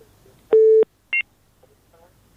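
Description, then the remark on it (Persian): A phone line on a radio call-in show, after the listener's call drops, sounds a short, steady tone burst, followed moments later by a brief higher beep, clear against faint line hiss with no voices. “بله، شنونده ما قطع شد.”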